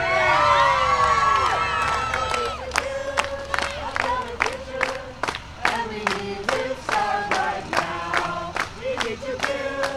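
A lively crowd of about 100 local activists in a park near Lake Arthur cheers and whoops as about 50 climate marchers arrive, voices rising in excited shouts with sharp claps and bursts of noise scattered throughout, sustained and fairly loud.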